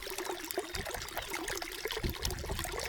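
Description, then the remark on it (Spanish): Dirty water is poured out to be discarded in a steady, continuous trickle, splashing and gurgling with small irregular bursts, no voices present. “Desechemos el agua, sí, pero hagámoslo con conciencia.”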